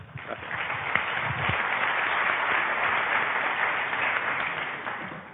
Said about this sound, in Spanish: Aplauso para él, por favor.